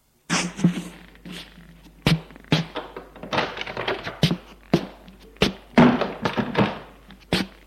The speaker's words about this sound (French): il se retourne et ouvre une porte.